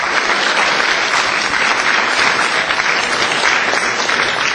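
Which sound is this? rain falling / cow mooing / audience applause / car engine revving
audience applause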